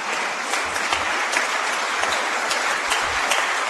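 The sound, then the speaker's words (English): An audience applauds a plan to streamline state government and develop transparent performance measurements, many hands clapping in a dense, crackling wash that holds at an even loudness throughout, with no voices heard. “Together, you can clap for that too.”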